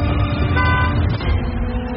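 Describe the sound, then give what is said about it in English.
A car horn honks in a steady, sustained blare, layered over a low rumble of vehicle noise that continues for the full two seconds. “I think it was your Tesla honking.”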